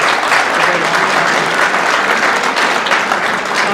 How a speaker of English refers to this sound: we have the dean of students here with us, and we're very happy to have the dean of students, Professor Porter, here with us. He's sitting in the front row, so if you can just give him a round of applause as well to welcome him.